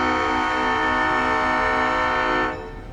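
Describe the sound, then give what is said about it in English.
A loud, sustained train horn blares steadily for about two and a half seconds, then cuts off, leaving the low rumble of a C&G Railroad train rolling along tracks that run down the middle of Johnson Street in Greenwood. “The tracks of the C&G Railroad run down the middle of Johnson Street in Greenwood.”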